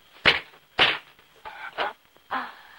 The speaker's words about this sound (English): Firmly grabbing her chin, he slaps her.